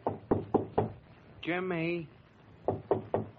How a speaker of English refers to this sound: We find Whitey, miserable and forlorn, knocking on Jimmy's door.